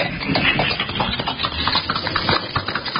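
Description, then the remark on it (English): A squad car engine runs steadily at a mid-pitched idle, a continuous rumbling drone with slight fluctuations and some rattling texture, with no voices. “Into the squad car and hold tight.”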